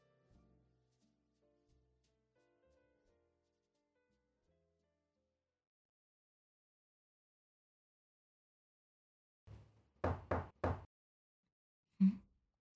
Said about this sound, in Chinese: 谁啊？怎么这个时候来敲门？